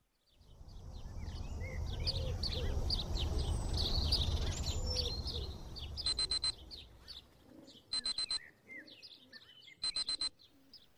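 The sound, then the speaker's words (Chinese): Morning birdsong chirps and coos fill the air, then an alarm clock buzzes in three short, rapid pulsing bursts spaced about two seconds apart, loud over the fading birds, as a woman gets up to make breakfast. “随着闹钟的嗡鸣声响起，我和往常一样起床给老公做早餐”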